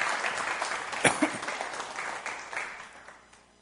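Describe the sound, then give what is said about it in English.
A crowd claps to welcome two guest speakers, a steady dense patter of many hands, with a couple of sharper claps standing out, then the applause gradually thins and fades away. “Give them a round of applause of welcome, please.”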